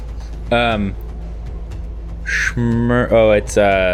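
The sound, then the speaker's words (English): A bird named Patrice lets out a series of loud, harsh, voice-like calls: one early squawk, then a cluster of three or four rapid calls toward the end over a steady low hum. “It's the bird's turn.”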